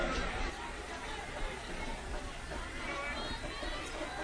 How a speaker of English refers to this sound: Just a great crowd here tonight.